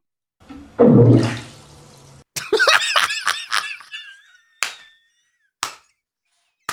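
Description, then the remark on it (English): An iguana in a bathtub: a rushing, watery whoosh, then a run of loud, high, rubbery squeaks much like a fart, followed by three sharp knocks spaced out at the end. “It was an iguana in a bathtub.”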